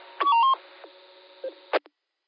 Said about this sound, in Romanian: Roger, Q5, ai un bip după tine. Da, te o să-l scot.